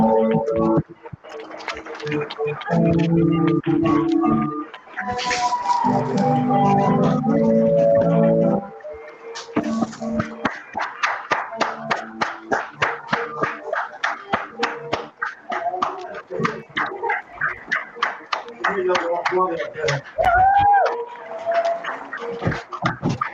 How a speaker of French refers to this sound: Tous les soirs à 21h, l'applaudissement solidaire. Bravo à tout le monde.